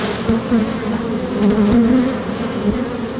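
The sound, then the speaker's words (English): A dense, steady drone of many honeybees buzzing as they fly after being shaken free from a hive frame tapped against another frame, the hum wavering slightly in pitch as they swirl, continuous and fairly loud with no voices. “And what it did basically was just shake the bees all free, and so now they're more flying.”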